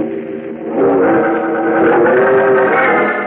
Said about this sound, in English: Just as Bruce Wayne's powerful Batmobile comes racing down the street, its powerful headlights pouring twin tunnels of light through the